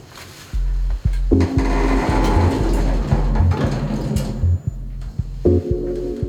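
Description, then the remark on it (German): Elevator doors on the 13th, top floor slide open and shut with a steady mechanical whir and low motor hum, punctuated by several sharp clicks and knocks, including a button press. No voices. “Tür auf, Tür zu, Knopf gedrückt und los geht's.”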